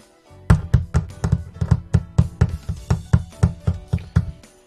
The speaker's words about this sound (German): Das ist Hagel, Tropfi, rief die Sonne. Eisige Körner fielen herab und prasselten auf die Blätter und Dächer.